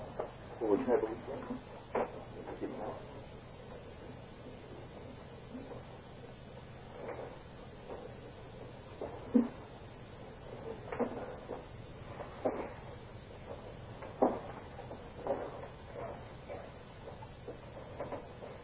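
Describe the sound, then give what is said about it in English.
Chairs being fetched and set out: scattered knocks, bumps and scrapes of furniture at irregular intervals, with faint background murmuring of people in the room. “It might be a good idea to give him quite a few more chairs at this point.”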